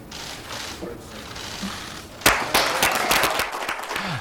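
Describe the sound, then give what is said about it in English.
Crowd applause at a Donald Trump speech, after he says states are being put back in charge of federally controlled land, bursts in suddenly after a couple of seconds of low murmur, a dense wash of many hands clapping that stays steady and fairly loud to the end. “I guess they turned on the applause sign at that point.”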